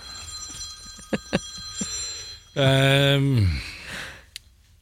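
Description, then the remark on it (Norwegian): A telephone rings with a steady, thin electronic tone running through the background, broken by a few sharp clicks and a brief loud voiced sound; the call is from a son-in-law. “Jeg skal bare ta den telefonen.”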